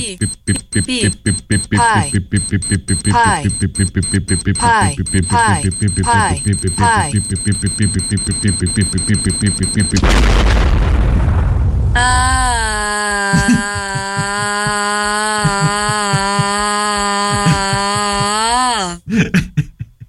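A time bomb's electronic beeping ticks along rapidly for several seconds, then a loud explosion bursts out, followed by a long, steady high-pitched alarm tone that cuts off abruptly.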